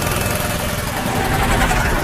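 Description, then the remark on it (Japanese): A small four-stroke general-purpose engine, the kind used in generators, fitted to a homemade kart, runs steadily, its low, pulsing rumble holding at a constant moderate loudness throughout, with a broad mechanical buzz layered over the chugging. “あのエンジン、フォーストの汎用エンジンやろ？発電機なんかに使う。”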